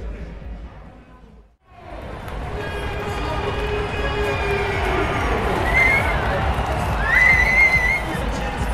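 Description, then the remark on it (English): A loud roadside crowd at a Giro time trial cheers Vincenzo Nibali riding past in the closing kilometres, the crowd getting very close to him: a dense, steady roar of many voices rising after a brief lull, with shrill whistles and horn-like tones cutting through near the end. “The noise can only be for Vincenzo Nibali.”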